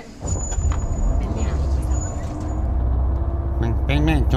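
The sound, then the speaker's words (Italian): A steady low engine rumble fills the inside of a moving bus in a staged Radio X comedy gag, with a faint high whine above it; a voice starts speaking near the end. “anche lei sul pullman?”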